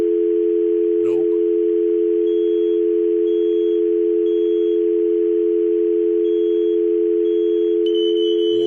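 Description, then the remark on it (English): A steady, continuous telephone dial tone hums without a break, loud and unwavering, with a brief click near the start and a faint electronic chirp toward the end. “Let's scan the dial tone.”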